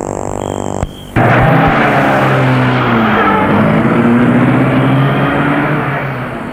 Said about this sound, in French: Et la voiture va jusqu'à la maison en suivant le parc.